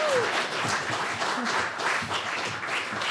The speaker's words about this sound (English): Let's give them a round of applause when they come sit.